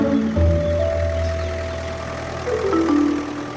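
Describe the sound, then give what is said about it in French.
A tractor engine idles steadily with a low, throbbing rumble and a faint whine that shifts pitch slightly toward the end. No one speaks. “là je vois effectivement votre tracteur, mais vous ne faites pas de labour, en fait.”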